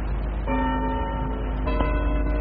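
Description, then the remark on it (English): A church bell tolls, its first stroke ringing out with long, humming overtones before a second stroke lands, all over a steady low rumble with no voices. “he remembered on a sudden that he had been warned of a visitation when the bell tolled one.”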